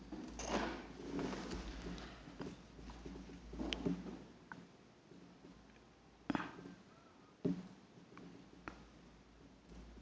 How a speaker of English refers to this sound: Okay. Let's wait for Secretariat to finish the typing.